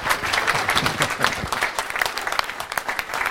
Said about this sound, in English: So I'm thrilled to have him here, and we don't usually clap for the guy who's coming to speak, but I think this morning we ought to do that.